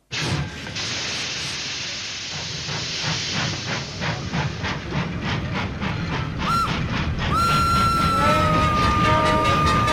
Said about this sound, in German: Tut, tut, macht die Eisenbahn.